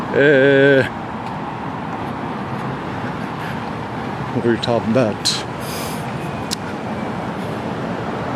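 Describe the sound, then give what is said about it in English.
Steady traffic rumble fills the background as vehicles drive past, a continuous broad road noise with a few brief louder swells. A voice speaks briefly at the start, with some faint talk partway through. “Watch out for old people driving the cars.”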